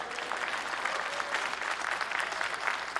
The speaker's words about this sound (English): Can I hear an amen for meat eaters? Meat eaters, let's put our hands together.